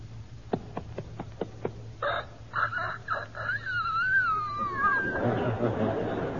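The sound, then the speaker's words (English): A few quick clicks, then a four-month-old young rooster attempts a crow: a thin, strained call that wavers and cracks unevenly in pitch for a few seconds before trailing off into hiss. “All right, now 4 months.”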